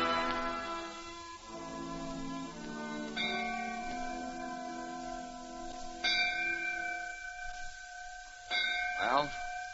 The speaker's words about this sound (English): John Harkless murdered by the White Caps. The bell on the courthouse tolling for the passing of his soul.